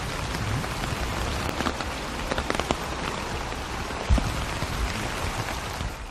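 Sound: heavy rain falling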